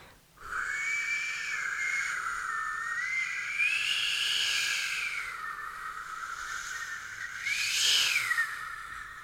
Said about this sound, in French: Le vent qui fait danser les feuilles mortes. Le vent qui souffle, souffle et siffle. Le vent qui chante des chansons.